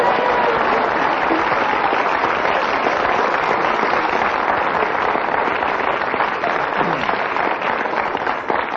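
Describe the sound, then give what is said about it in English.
An audience and panelists clap enthusiastically, a loud, dense and steady wash of applause that keeps up without a break for about nine seconds, with faint crowd murmur mixed in. “I will tell our listeners that not only did the audience clap ecstatically, but also the other panelists clapped.”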